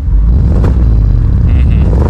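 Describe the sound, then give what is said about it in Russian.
A BMW car engine rumbles loudly and steadily, with a deep low-end growl and slight surges like a revving exhaust, with no voices over it. “И если вы будете знать правильный ответ, вам нужно будет издать звук, подобный выхлопу BMW. Давайте послушаем, как он звучит.”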